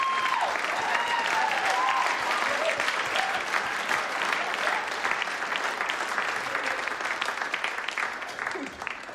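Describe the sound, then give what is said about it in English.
A crowd claps steadily and loudly for about nine seconds after a song about Kettering Town FC, a dense patter of hands with a few voices or whoops rising faintly above it before it eases slightly at the end. “Applause deserved, I wrote that song myself.”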